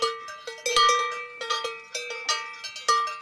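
A cowbell clangs repeatedly in an uneven, lilting rhythm, each metallic strike ringing briefly before the next, fairly loud with no voices.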